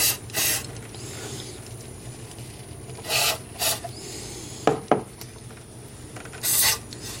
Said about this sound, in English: I think I'm going to spray a little more of that cleaner. I'm doing this by opening up the throttle thing and then spraying.